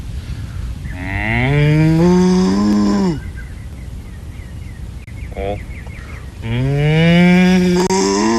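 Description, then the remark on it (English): Two long, loud cow moos, each drawn out for a couple of seconds with a rising, droning pitch, separated by a quieter pause with faint background noise. “Yep. Cow.”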